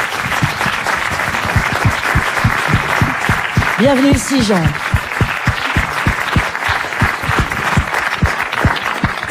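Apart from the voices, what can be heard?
audience applause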